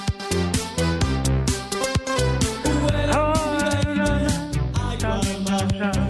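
An upbeat synth-pop song plays from a recording, loud and steady, with a driving regular beat under bright, repeating keyboard melodies. No one talks over it.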